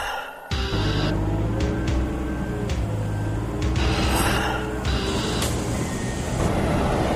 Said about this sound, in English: Here at this power plant, every few days a string of coal cars arrives packed with coal from out of state. When the coal arrives, it drops through the bottom of each car into this unloading station.